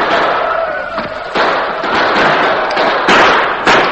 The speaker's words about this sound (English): returned the gunfire. They rode in a large circle around the house and barn. Bullets came through the open windows on all sides. The darkness made accurate gunfire difficult, but several of the Indians were hit and sent sprawling to the ground.